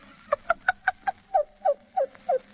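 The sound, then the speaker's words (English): A voice imitates a cuckoo clock's cuckoo call for a part in a script, nine clear hoots: five quick evenly spaced notes, then four slower, drawn-out ones that slide downward. No other talking. “Well, I can do a different kind of a cuckoo, too.”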